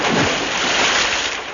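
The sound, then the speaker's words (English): A loud splash as a man falls into water, followed by a continuous churning rush of water for a second or so, with no voices. “He has fallen in the water.”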